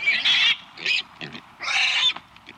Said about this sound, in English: And that really is our pig. Yeah, well, we have a pet pig.